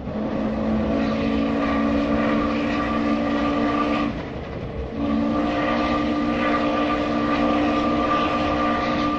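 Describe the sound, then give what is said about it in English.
An old, slightly muffled 1950s recording by O. Winston Link of a steam train rumbling steadily past, with a sustained droning tone over the chugging roar that briefly drops away midway before surging back. “We had plenty of praise for Melissa's piece about old recordings of steam trains”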